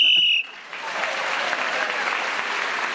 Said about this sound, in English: So, at the end of that round, Paul Merton was speaking as the whistle went again, the extra point, and he's gone forward.